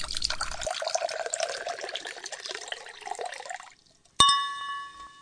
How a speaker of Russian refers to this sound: Ну что, браток, наливай.